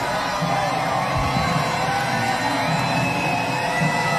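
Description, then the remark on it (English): A large crowd at the Darlington race roars and cheers continuously as driver Martin Truex Jr. gives a thumbs up to them, a dense wash of shouts and whoops at steady loudness with no clear individual voices standing out. “Oh, Martin Truex Jr., thumbs up to the crowd.”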